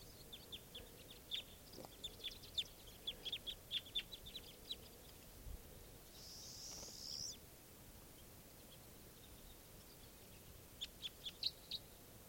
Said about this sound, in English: A very large flock of crossbills just arrived, and they're sitting in the trees here above where I used to have nets set up. And flocks, mostly type 2 birds. These are wild birds.